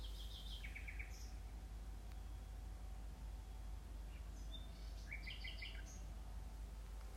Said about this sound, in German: Nachtigall immer noch unermüdlich am Interpretieren der Nacht.